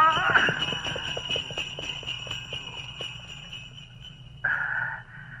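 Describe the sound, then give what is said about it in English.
A horse flees pulling a sledge: rhythmic hoofbeats with jingling sleigh bells pull away and fade over a few seconds, then a brief louder tonal cry near the end. “The horse has fled with the sledge.”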